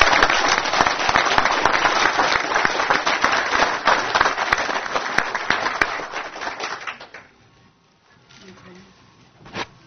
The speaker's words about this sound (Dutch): Applaus voor de nieuwe regio.